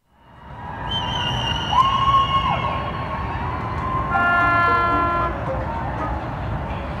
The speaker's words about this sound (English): Is the sound of people cheering in Chicago's South Loop neighborhood, honking, blinking the lights of their apartments on their balconies to honor healthcare workers and first responders.